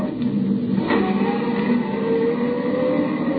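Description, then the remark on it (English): A car engine roars steadily at high revs as the vehicle accelerates with the gas pedal jammed to the floor, a loud, continuous drone with no voices over it. “With every jolt of the car, another Roman candle went off in my head, but I kept the gas pedal jammed to the floor until I saw the turnoff sign for the Austin mine.”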